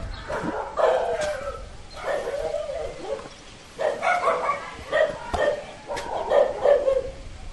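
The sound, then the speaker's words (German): Several village dogs in Bogaros bark repeatedly at strangers on their territory, overlapping yaps and bow-wows in irregular bursts over a faint outdoor background, with no one speaking. “Prinzipiell beißen Hunde am Dorf nicht, aber ihren Job tun sie offensichtlich ordentlich und melden sofort die Anwesenheit von fremden Leuten auf ihrem Revier.”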